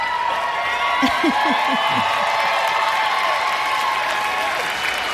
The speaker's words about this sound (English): Parks and Rec got a lot more applause. I'm just saying.